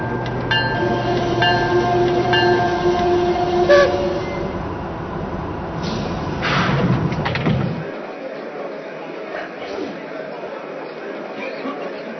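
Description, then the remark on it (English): A passenger train, train number 59, rumbles along the rails, loud, with steady horn-like tones sounding early on before the heavy low rumble drops away into a thinner rolling noise. “embark on track number 7, train number 59, the Iroquois.”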